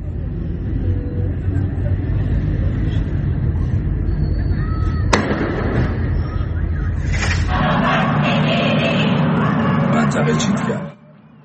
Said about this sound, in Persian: شهرک چیتگر تهران، اعتراض‌های شبانه و شعارهای ضد حکومتی.